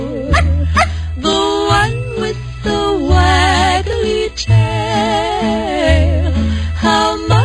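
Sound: dog barking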